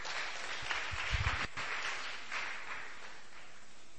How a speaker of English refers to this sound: You can sit down, please. Thank you. Clap for him.